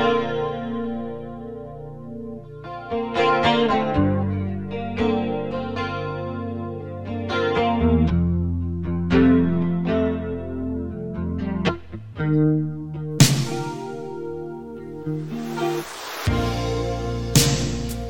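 A 1980s rock ballad guitar intro: clean, chorus-drenched chords ringing out slowly and steadily, up close and loud, with a fuller, brighter band sound swelling in near the end.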